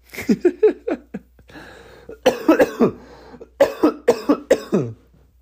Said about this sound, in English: Please ignore that cough.